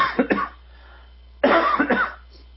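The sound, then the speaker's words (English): A person with a bit of a cough coughs in two close-set bursts: a couple of quick, sharp coughs, a brief pause, then a longer, harsher cluster of several coughs, fairly loud. “Excuse me, I've got a bit of a cough.”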